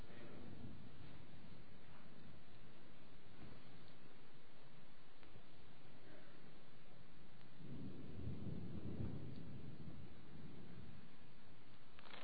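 Rain hisses steadily throughout while deep rolls of thunder rumble in, one early and a louder, longer one near the end, like a passing storm.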